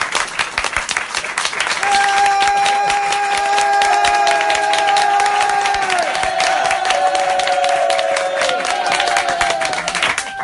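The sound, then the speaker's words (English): A crowd claps steadily for about ten seconds, a dense, loud patter of many hands, with a sustained high musical tone droning over the applause. “If that's what we're doing, if we're going down, if that's what we're doing, if we're going to applause, then really clap.”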